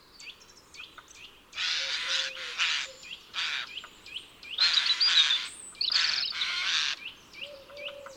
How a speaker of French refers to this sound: Son garde-manger est déjà pas mal plein en prévision de l'hiver et il semble que le strident croassement qu'il émet traduit sa satisfaction pour le travail bien fait.